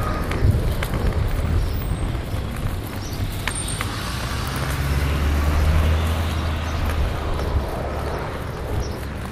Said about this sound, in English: Why do planes always come by when I'm across the street?